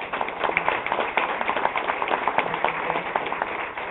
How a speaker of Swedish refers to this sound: Och nu är det min kära plikt att lämna över till dagens moderator, den kända radiorösten, one and only. Och så ger vi applåden till Thomas Ritter som är där.